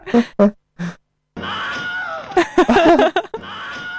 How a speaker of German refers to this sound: er wird von einem Pfeil getroffen im Bein und schreit halt. Aber Moment, vielleicht sollten wir ihn auch mal abspielen. Welchen nehmen wir? Ja, den da. Das ist der Schrei. Take 4 ist das, Take 1. Das ist auch sehr gut.